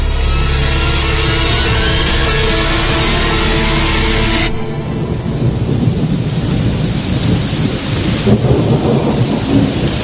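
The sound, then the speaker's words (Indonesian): Heavy, steady rain pours down outside at night while deep thunder rumbles loudly through the first half, then fades into a continuous hiss of rainfall with softer rumbles. No voices. “Sesekali suara gemuruh petir membuat malam itu entah kenapa semakin terasa mencekam.”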